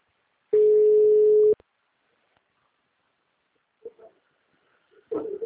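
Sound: dropped phone call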